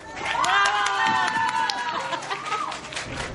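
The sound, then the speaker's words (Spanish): An audience claps in a steady patter of overlapping hand claps while voices whoop and cheer over it, loud at first and easing slightly toward the end. The applause is an applause-meter vote for tables at an event. “A los de allá no van a aplaudir, les quito sus regalos, ¿eh?”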